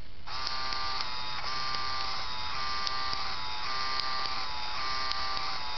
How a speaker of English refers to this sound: Cool Easter egg with the Game Boy printer, actually. You could print a test print whenever you want. Hold down the feed button and turn the power on.